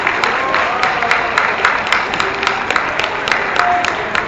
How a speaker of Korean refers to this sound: 그래서 어제 밤늦게 부탁을 드렸는데 흔쾌하게 수락을 해주셔서 너무 감사한 의미에서 다시 한번 입장 박수 부탁드리겠습니다.